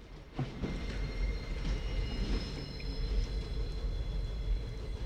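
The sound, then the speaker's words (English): A steam train approaches down the tracks with a deep, continuous rumble and thin, high metallic squeals riding over it, holding steady and fairly close, with no voices. “They look down the tracks and see a steam train heading their way.”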